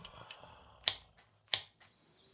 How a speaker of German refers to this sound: Der Jäger schoss nicht, sondern nahm eine Schere und schnitt dem schlafenden Wolf den Bauch auf.